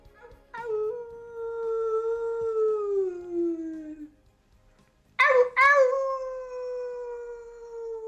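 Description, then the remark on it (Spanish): A person imitates a wolf in a WhatsApp message, giving a long, wavering howl that slides downward, then a pause before a second loud howl begins with a sharp rise and holds steady. “Así el destino ha querido que llegue un WhatsApp con un lobo.”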